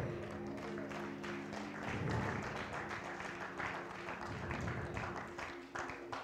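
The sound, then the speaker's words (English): An audience claps steadily for several seconds in answer to a call to testify with a clap that it is worth it, a dense patter of many hands that swells slightly midway, with a low sustained tone humming underneath and some indistinct crowd voices. “But are there any witnesses in here who can testify with a show of hands or with a clap that it's worth it and it works?”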